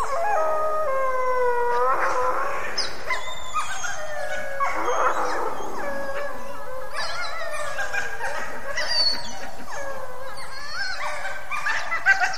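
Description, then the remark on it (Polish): Several wolves howl together in overlapping, long wavering calls that rise and fall throughout, steady in loudness, with no voices; adult wolves calling their pups to food, recorded at a camera trap. “Nagle słychać nawoływanie rodziców, zapraszamy do stołu.”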